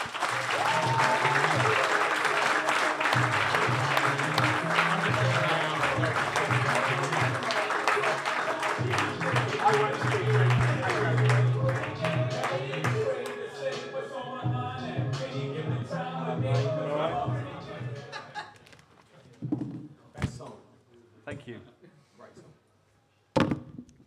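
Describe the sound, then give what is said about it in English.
A loud round of audience applause with dense clapping and some cheering, holding steady for about fifteen seconds before thinning out into scattered claps and fading away. “Please, huge round of applause.”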